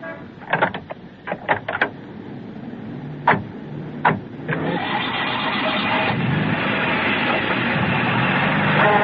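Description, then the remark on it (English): A few sharp mechanical clicks and clunks, then a car engine turns over and settles into a steady, loud rumbling drone that continues to the end as the car pulls away. “It's in the car. You can drive away, huh?”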